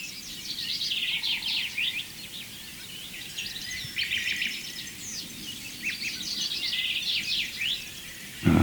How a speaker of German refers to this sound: Entweder ist der Gesang melodisch, die super Amsel, die wir im Hintergrund auch hören. Hören wir sie?